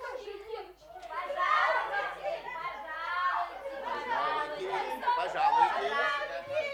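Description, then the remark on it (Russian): A crowd of children arriving as guests at a Christmas tree party tumbles into the front hall from the frost, chattering excitedly all at once, high overlapping voices sounding continuously, with a few brief giggles mixed in. “В переднюю ввалилась целая толпа детишек, улыбающихся, румяных с мороза, запушенных снегом”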